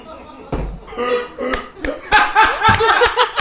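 Sharp hand claps repeat about eight times in an uneven rhythm, loud and crisp, like a toy cymbal-clapping monkey, mixed with laughter and chatter from people.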